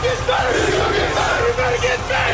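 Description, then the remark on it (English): A huge stadium crowd at Soldier Field in Chicago roars and cheers without pause as the Chicago Bears become NFC North champions, a dense, loud wall of voices with scattered yells and whoops rising out of the din. “I hadn't heard the crowd this loud at Soldier Field ever.”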